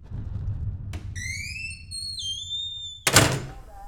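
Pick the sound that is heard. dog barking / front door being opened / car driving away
front door being opened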